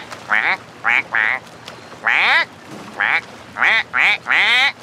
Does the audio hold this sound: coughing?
no